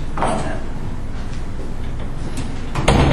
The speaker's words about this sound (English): Or close the door, one. Yeah, you know what? Let's do that.